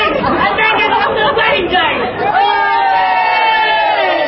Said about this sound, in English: Crowds are gathering already for tomorrow's wedding of Prince Harry and Meghan Markle